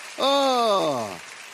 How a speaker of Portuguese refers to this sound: É, glória a Deus, aplauda a Ele, glória a Deus.